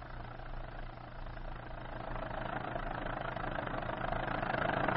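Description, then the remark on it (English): An old motor launch's engine chugs steadily as it comes round the bend of a river, a low, continuous mechanical drone with a rough rumble that grows slightly louder toward the end. No voices. “Close your eyes, you old-timers, and you can just see that old motor launch coming round the bend of the river.”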